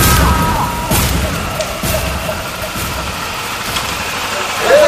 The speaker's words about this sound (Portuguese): O destino aconteceu, era noite nublada, uma moto, dois caras chegaram atirando sem perguntar nada.